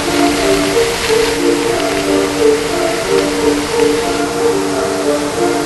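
Water from a small waterfall pours down steadily like a shower in a dense, hissing spray, loud and splashing continuously, with no voices.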